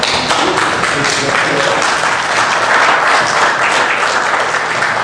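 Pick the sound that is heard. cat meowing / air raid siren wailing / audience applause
audience applause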